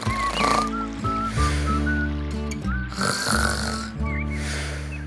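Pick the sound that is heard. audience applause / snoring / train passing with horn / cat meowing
snoring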